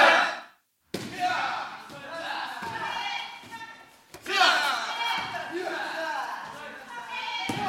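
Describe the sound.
Karate sparring: a few sharp, heavy thuds of strikes landing at irregular intervals, mixed with loud shouting voices and bursts of vocal effort throughout.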